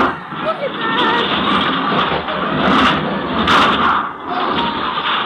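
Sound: car engines revving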